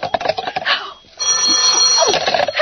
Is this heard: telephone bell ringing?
yes